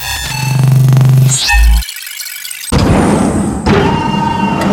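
A door creaks open with a long, eerie, tonal groan over a low drone, ending in a heavy thunk, followed by a short silence and then a dense, rumbling wash of noise.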